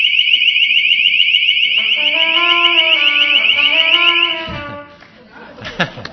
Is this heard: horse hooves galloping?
no